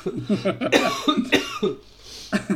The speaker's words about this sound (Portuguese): Espero que quando este episódio for para o ar já não esteja com tosse. Nós estamos a gravar isto com muito tempo de antecedência. Eu espero mesmo que sim, porque já não posso com essa tosse. Desculpa.